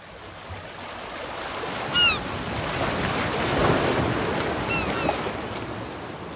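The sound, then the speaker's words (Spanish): Ocean waves wash steadily onto the shore in a continuous rushing roar that swells and recedes, with a couple of brief, high bird calls cutting through near the beginning and again toward the end. “Dejar que las olas nos mojaran las puntas de los pies.”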